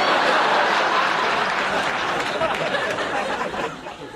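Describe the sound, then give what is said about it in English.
A crowd applauds steadily, dense clapping filling the space at a loud level before tapering slightly near the end, with faint chatter and a few chuckles mixed in. “After you finish stripping, you want to acknowledge your applause and gather up your clothes and head back to your trailer.”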